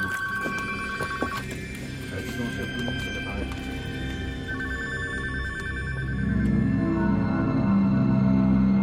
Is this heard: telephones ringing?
yes